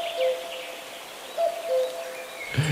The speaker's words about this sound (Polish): O, właśnie usłyszałem przed chwilą w tle głos samca turkawki. Może posłuchamy.